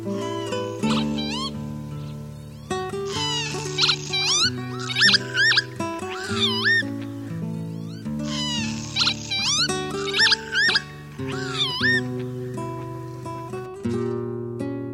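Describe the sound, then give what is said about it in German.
Northern lapwing calls: repeated wheezy, rising-and-falling 'pee-wit' cries in bursts, set over a steady, sustained low tonal backdrop that shifts every few seconds. “Das war der Kiebitz.”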